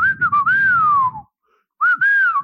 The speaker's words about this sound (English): And you can hear me breathing. Mm-hmm. And there'd be a little whistle sometimes from my nose. Like that.